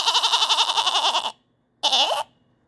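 A goat bleats twice: a long, loud, quavering cry, then after a brief pause a shorter wavering bleat. No one speaks.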